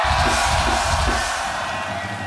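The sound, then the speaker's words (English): A large concert crowd screams and cheers at a live show when called on from the stage, a sustained, loud roar of yells and whoops, dense and continuous for a couple of seconds with no clear talking. “Let me hear you motherfuckers scream”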